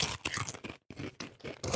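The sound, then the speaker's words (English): Loud crunching and chewing of curry-flavored potato chips from Japan in quick irregular bursts, with a brief pause midway before the munching resumes. “All right, let's crunch it off.”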